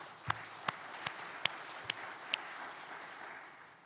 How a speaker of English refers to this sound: So, but with that, let's give a round of applause to our two speakers.